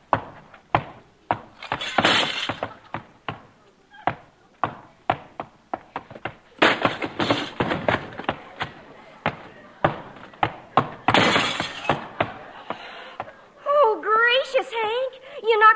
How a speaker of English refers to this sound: In the end table, you broke the legs off the sofa and stuck your foot through the front window. Shucks, I was hoping you wouldn't notice.